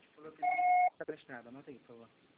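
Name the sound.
answering machine beep tone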